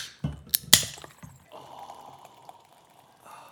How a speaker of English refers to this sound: Time to crack open. Oh, the Guinness.